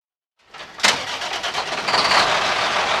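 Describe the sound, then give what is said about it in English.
A farmer's truck engine cranks and catches after a brief silence, then settles into a steady rumbling idle with a broad hiss on top, as he gets ready to park at a grain elevator in St. Louis, Missouri, to drop off 1,000 bushels of corn and 900 bushels of soybeans. No one speaks. “is getting ready to park his truck after driving from his 2,000-acre farm in Wentzville, Missouri, into St.”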